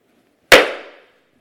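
One sharp, loud wooden knock from a woodworker's hammer striking a small wooden block like those found in courtrooms, with a sudden bright attack and a short ringing decay that fades within half a second. No other sounds around it.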